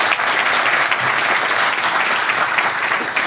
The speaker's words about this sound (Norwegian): God morgen, Martin Kolberg. Jeg lover å klappe for Martin nå, ja.